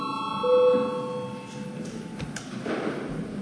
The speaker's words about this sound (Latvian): Lūdzu zvanu. Balsosim par 12. priekšlikumu.